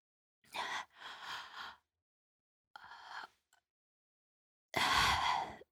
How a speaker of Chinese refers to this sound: 你看我这一个哈欠接一个哈欠的，你就都让我睡一会儿，我求你了！